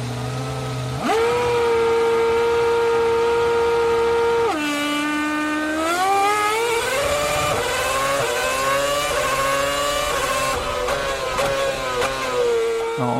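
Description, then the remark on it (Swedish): A loud engine revs up sharply, holds a steady high drone, then rises and falls through several gear-like pitch sweeps, continuous with no talking. “Nu ska vi lyssna på en motor.”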